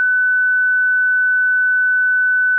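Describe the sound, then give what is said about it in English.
A steady, piercing high-pitched 1500 hertz tone (1500 pulses per second) holds at a constant pitch and loudness for about two and a half seconds, a synthetic simulation of a Formula 1 engine with six pistons firing, with no voices over it. “With six pistons firing and making noise, let's increase the frequency by a factor of six to get to 1500 hertz. That's 1500 pulses per second. I'll play that sound for you right now.”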